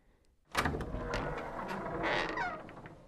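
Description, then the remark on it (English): A sharp latch click after brief quiet, then an unlocked door swinging open with a drawn-out creak and scraping rustle, fairly loud, with no talking. “I've never known Lucy to leave the door unlocked.”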